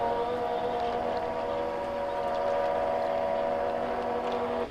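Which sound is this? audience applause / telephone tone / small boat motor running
small boat motor running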